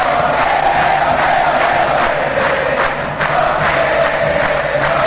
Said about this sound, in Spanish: El envío al área buscando la ubicación del Willy Mendieta, ganó Rojas, despejó el zaguero legendario, pero con tanta mala fortuna que la pelota le cayó a Rojas y genera este gran aplauso, esta gran ovación para el goleador.